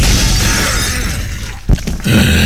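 A window that people are hitting and slamming on shatters in a sustained crash of breaking glass, then one sharp, loud impact and a fresh burst of noisy smashing at the end. No one speaks.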